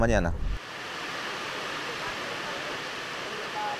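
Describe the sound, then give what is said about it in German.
Heavy rain pours down on a river boat in extreme darkness and fog, a steady, dense hiss that fills the whole scene without letup, right after a brief trace of a voice at the very start. “Es ist extrem dunkel, viel Regen, viel Nebel, nicht einfach.”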